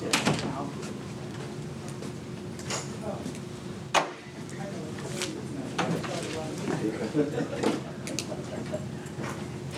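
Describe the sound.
A door swings shut with a single solid thud partway through, cutting briefly through a steady background of murmuring voices and shuffling at a Bible study gathering about to start with prayer.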